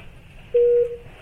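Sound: phone call connecting tones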